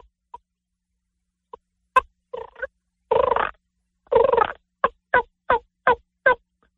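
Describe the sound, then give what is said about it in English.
A few sharp, isolated clucks, then raspy drawn-out notes and a quick, evenly spaced run of about five hen turkey yelps, all played on a turkey call, clear with no talking. “I do a lot of yelps and clucks.”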